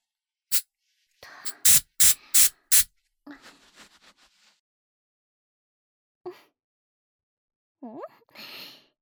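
household object, hair spray being sprayed

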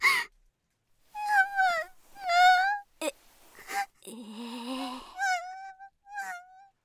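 human body sound, girl crying and whimpering

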